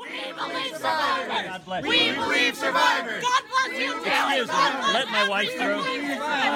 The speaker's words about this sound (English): A video posted to Twitter shows activists chanting, "We believe survivors," and demanding to know Cruz's stance on Kavanaugh's confirmation.